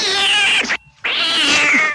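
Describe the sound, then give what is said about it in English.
A cat screeches loudly and harshly in two long, strained wails separated by a brief pause, piercing, with no talking. “So warning, this is a horrible cat.”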